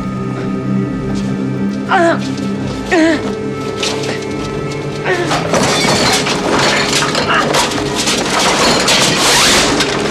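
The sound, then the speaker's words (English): A few seconds of quieter tones and warbling sounds, then everything on a desk crashes and shatters as someone tries to open a window, a loud, continuous clatter of smashing and breaking that lasts to the end. “He swims through the air, and in an attempt to open his window, smashes everything on his desk.”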